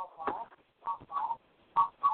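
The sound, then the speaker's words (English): A few short electronic phone tones beep in an uneven sequence as a phone line is opened, thin and band-limited like sound coming through a telephone line, fairly quiet with brief gaps between them. “So I'm going to open up this phone line.”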